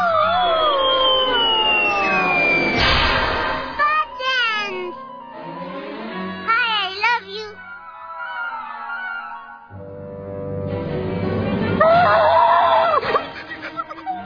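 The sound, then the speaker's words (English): A dog howls in long, wavering, sliding cries, several drawn-out howls rising and falling with short pauses between them, loud. “Is that your dog?”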